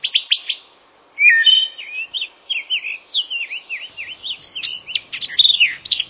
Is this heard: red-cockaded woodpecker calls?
yes